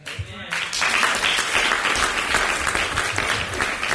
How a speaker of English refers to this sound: And I was asked for everyone to hold your applause until we're done with the panelists, until everyone is done with their questions. If we could just hold the applause for just a second.